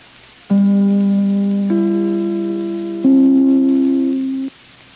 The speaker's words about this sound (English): But first, let me take a second or two to ring my chimes. This, darlings, is NBC, the National Broadcasting Company.